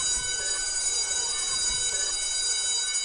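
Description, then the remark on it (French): A school bell rings without pause for about three seconds, a steady, bright metallic jangle with shimmering high overtones and no voices over it. “La cloche a sonné, la cloche a sonné.”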